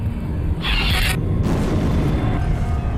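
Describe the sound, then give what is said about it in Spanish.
A single loud, deep explosion booms in the town of Santa Rosa on 23 May 1993 while residents sleep, destroying 16 houses. Its low-end rumble rolls on and fades slowly over a few seconds, with a brief bright crackle of debris early on. “Mientras la mayoría de los habitantes del pueblo de Santa Rosa duermen, una ensordecedora explosión expone un terrible secreto y revela evidencias que se habían buscado durante casi 4 años.”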